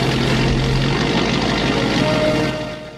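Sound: boat engine running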